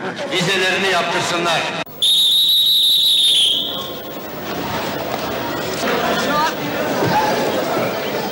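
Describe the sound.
Platform eleven of a railway station, full of crowd chatter from workers leaving by train that evening, cut through by a loud, sustained high whistle blast lasting over a second before the murmur of voices carries on.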